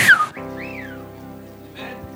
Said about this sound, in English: Now you've even learned to whistle.